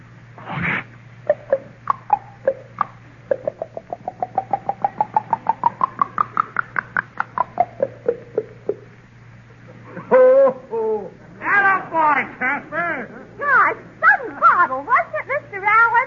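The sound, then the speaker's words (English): A voice imitates a ginger ale bottle: a rapid train of hollow glugging clicks that rises in pitch then falls, followed by a burst of bubbly, warbling fizz sounds over a steady low hum. “Okay, give us a ginger ale bottle,”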